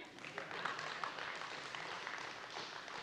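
A light, polite golf clap from an audience: soft, scattered clapping that stays steady and fairly subdued throughout, with no voices.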